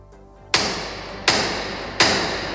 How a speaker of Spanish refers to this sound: que es el teniente de hermano mayor, que toque el martillo para que lo escuches.